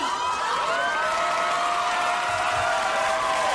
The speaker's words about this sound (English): The claps, the woos, the excitement. It's real. I feel it. I can almost see the audience reaction in my head and kind of the tears in some gal's eyes being like, ah, oh God. It was a huge moment.